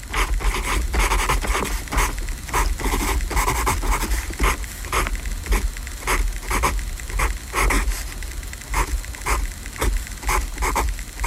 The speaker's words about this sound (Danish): det her, det er underskriften angiveligt fra Jon Steffensen, der skriver falsk under